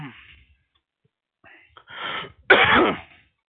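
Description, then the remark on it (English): A stressed person clears their throat and coughs in a few rough bursts, starting softly and ending with a louder, harsher hack, with no talking. “God, I'm fucking coughing because I'm so fucking stressed the fuck out right now.”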